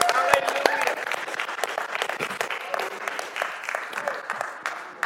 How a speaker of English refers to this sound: Come on, that's a good time to clap.